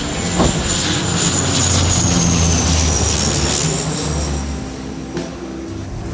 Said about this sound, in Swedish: Ja, nu är det dags att flytta på sig, för nu kommer ett gult italienskt flygplan. Vi ska bomba här.